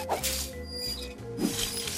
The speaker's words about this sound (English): What was that noise? My mini dino. It's a pet that's also a wristwatch. It's a friend for life that never turns off.